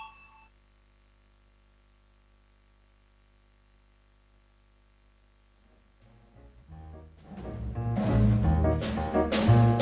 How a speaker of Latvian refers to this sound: Lūdzu zvanu, balsosim par 19. deputāta.